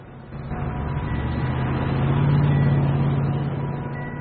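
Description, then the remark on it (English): An expensive car drives past in the opposite direction, its low engine rumble and humming tone swelling to a peak around the middle before easing off slightly as it continues on. No voices. “An expensive car passes him in the opposite direction.”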